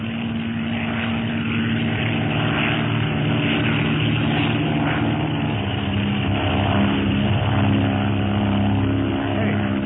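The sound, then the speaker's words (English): A steady, droning propeller engine hums loudly and continuously, with strong low harmonic tones, like a small black-painted airplane passing overhead. No one speaks. “It's a plane, all right.”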